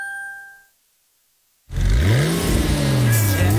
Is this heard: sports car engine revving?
yes